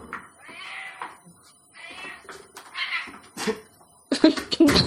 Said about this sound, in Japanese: うちの猫が来ましたけどね。 タンゴ。 はい。 タンゴ大泣きでしたね。 収録の時になると必ず来るんですよ。